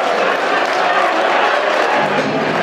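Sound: football crowd cheering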